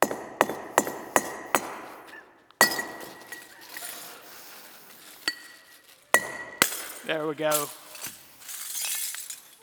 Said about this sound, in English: There's some broken glass here. We probably need more broken glass, though.